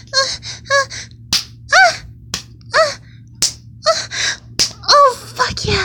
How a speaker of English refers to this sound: Slapping my ass.